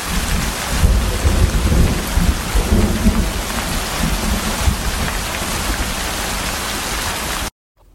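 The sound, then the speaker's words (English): Heavy rain pours down steadily in a dense, loud hiss, with deep low rumbles like thunder rolling underneath, then cuts off abruptly near the end. “At this moment, with no umbrellas, the rain pouring, it felt like my heart was being ripped into pieces.”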